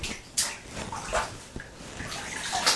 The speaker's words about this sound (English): See, because I need a bath. There's your water.